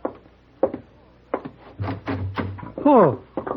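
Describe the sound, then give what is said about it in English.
A door is handled and swung open for Hey Boy, whose arms are full of baseball things: several sharp clicks and knocks from the latch, a low rumbling scrape, then a short creaking groan followed by a final thud. “No, can't open door, Mr. Paladin. Arm is full.”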